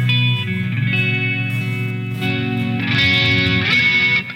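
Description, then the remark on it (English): A loud, heavily distorted electric guitar sound rings out continuously during a worship service, thick and buzzing with dense harmonics, swelling brighter and harsher toward the end. “And God loves distortion.”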